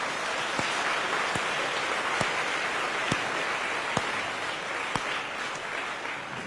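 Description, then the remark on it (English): A crowd at the Buddhist Fellowship, after a talk by Ajahn Brahm, applauds the staff and volunteers steadily throughout, a dense wash of clapping with a few sharper individual claps popping out at regular intervals. No one speaks over it. “Please give them a round of applause as well.”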